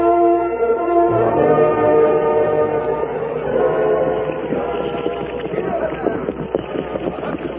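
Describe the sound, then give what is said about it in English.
A wagon train heading toward Needle Pass rolls steadily along, its wheels and wagons rumbling and creaking in a continuous, fairly loud clatter, with indistinct voices mixed underneath. “I reckon we're moving right along with this here wagon train.”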